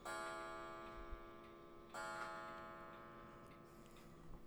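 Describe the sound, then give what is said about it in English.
A quiet, newly activated mechanical clock ticks in the background, its sparse taps joined by a ringing, metallic resonance that swells and slowly fades. No one speaks. “Is that the clock in the background? Yeah, it is. The clock is finally activated.”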